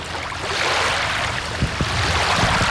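Steady wash of water at the shore of the Doktorsee lake in sunny weather, with small splashes and gentle lapping sounds rising briefly near the middle, and no voices.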